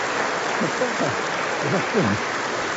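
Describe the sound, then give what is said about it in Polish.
A steady wash of audience applause, dense and crackling without any clear beat, holds at an even level throughout, with voices faintly audible beneath it. “On celowo tak się krył, żeby mieć te oklaski.”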